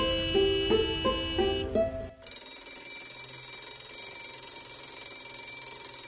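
A short melodic chime of stepped tones plays for about two seconds, then gives way to a continuous, sustained electric bell ringing loudly and steadily to the end.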